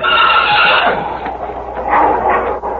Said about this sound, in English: Yeah, listen to that. That's a wolf. Where is he? In that pit in front of the colt. The wolf's in it? Yeah, has to be the way the colt's acting. Yeah, listen to him. He's trying to jump out.